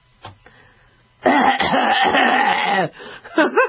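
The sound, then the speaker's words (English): A voice imitates exaggerated, theatrical coughing, a short hack followed by a long, loud strained groan and a final wheezy cough, dramatic with no other sounds. “Just cough. Just go. Okay? You don't have to make sounds when you cough.”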